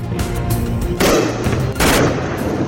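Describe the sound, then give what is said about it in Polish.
Two loud explosive blasts about a second apart, each a broad roaring burst that lingers, over a low rumbling backdrop of gunfire-like activity outdoors in the Indian city of Jammu, with missiles seen flying across the sky during Pakistani attacks. “W indyjskim mieście Jammu słychać eksplozję, a na niebie widać przelatujące pociski.”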